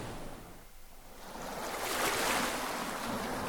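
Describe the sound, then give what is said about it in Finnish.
Sea waves and wind roar as a steady wash of noise that swells louder partway through and holds there, with no voices. “Samassa tuuli lakkaa puhaltamassa.”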